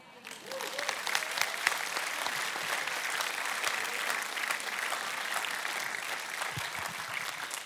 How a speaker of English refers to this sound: So good. So, so good. Give them another clap. Come on.